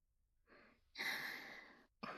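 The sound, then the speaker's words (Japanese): A breathy yawn: a short airy intake, then a long loud exhaling breath lasting about a second, with another breath starting right after. No one speaks. “お、 あくび。まだ眠いの？”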